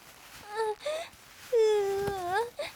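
A boy crying in short whimpering sobs that build into one long, drawn-out wail with wavering pitch, ending in a brief final whimper. No words are spoken.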